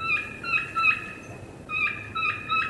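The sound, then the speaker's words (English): A kee-kee run played on a turkey call: thin, high whistled notes rising in quick sequences, played twice in a row, clear with no talking. “The next call will be the Kiki Run. Great whistle.”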